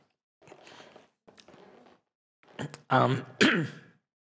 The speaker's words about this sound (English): Sorry, just let me have a cough.